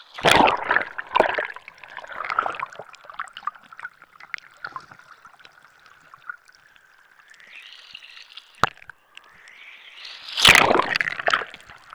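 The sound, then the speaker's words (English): Muffled underwater sounds of the sea recorded with a hydrophone: gurgling, trickling water, scattered sharp clicks and a faint high tonal whine, plus a loud sloshing burst near the end; no voices. “Yeah, we had people come to the workshop who afterwards were really enthusiastic about sort of taking their hydrophones and going out and listening into the sea.”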